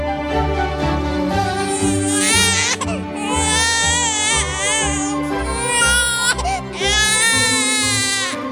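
A newborn baby cries loudly and continuously, wailing in long, wavering bursts with brief catches of breath between them, heard alone without talking.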